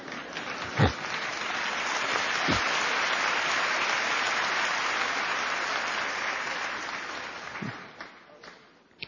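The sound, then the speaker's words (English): An audience bursts into sustained applause, a dense wash of many hands clapping steadily for about eight seconds before thinning out, with a few low thumps scattered through it. “Don't be afraid to clap. I'm not going to stop you from clapping.”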